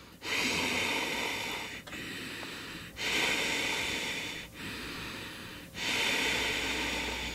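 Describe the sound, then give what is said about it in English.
Slow, deliberate breathing through a constricted throat, a hissing, ocean-like rush on each inhale and exhale. About four long breaths alternate with short pauses, no talking. “So a lot of times, teacher will refer to it as the sound of the ocean, or Darth Vader if you're a Star Wars fan.”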